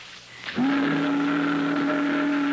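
boat whistle

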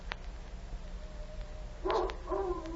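dog howling

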